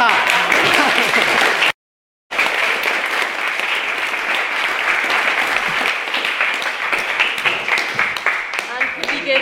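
A second round of sustained crowd applause, a dense wash of many hands clapping at a steady loudness. A brief moment of silence breaks it early on before the clapping resumes and carries on.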